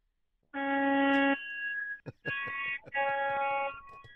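A loud real truck horn, sounded by a truck driver, blares in several sustained blasts, the first steady, then sputtering and breaking up unevenly as the horn struggles before sounding again, harsh.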